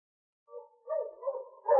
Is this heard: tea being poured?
no